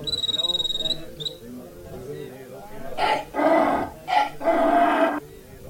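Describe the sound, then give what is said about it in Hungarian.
A person imitates a cricket with a shrill, rapidly pulsing chirp for about a second at the start, followed by louder rough vocal bursts and talking. “Milyen furcsán cirpel a tücsök!”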